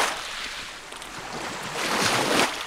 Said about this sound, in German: Am Isniksee im Nordwesten der Türkei rauschen kleine Wellen auf den Strand. Die grauen Kiesel sind mit roten Ziegelresten durchmischt.